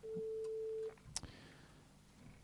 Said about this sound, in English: The phone is ringing.